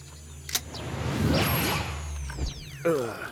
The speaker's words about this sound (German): Der Major entsicherte die große Pistole und ein eigentümliches Vibrieren kam aus seinem Rucksack.